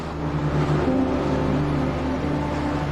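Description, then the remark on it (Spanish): A steady, loud rumble of heavy truck engines carrying copper to the industrial port town of Antofagasta, with low droning tones and a broad mechanical hiss holding constant for a few seconds, as traffic rolls past. “Sus habitantes viven al ritmo que marcan a diario los camiones y los trenes que llevan el cobre a este puerto industrial, desde donde será exportado hacia los 4 continentes.”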